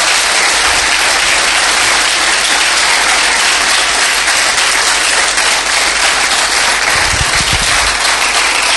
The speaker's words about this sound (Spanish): Vamos, dale ese aplauso fuerte al Señor.